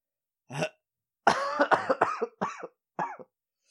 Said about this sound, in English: I love this cough. Do you need a Ricola or something? No, it's like, it's lungs. Yeah, like good lung butter? It's just a lot of lung butter built up, and it sucks.